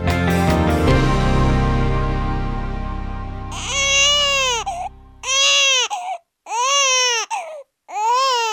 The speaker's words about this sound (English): A baby's cry is universally recognizable, but now there's evidence that a newborn's cries may be shaped by the language it hears while still in the womb.